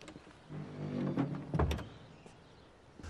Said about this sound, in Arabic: أغلق الباب.